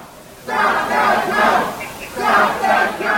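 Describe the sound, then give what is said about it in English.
A loud crowd of Republicans chants "Stop the count" in unison at the police-shielded doors of the TCF Center in Detroit, where ballots were being counted, voices rising and falling in repeated rhythmic bursts of shouting after a quiet start. “You can hear them chanting, "Stop the count," as they were met by police who shielded the doors of the TCF Center.”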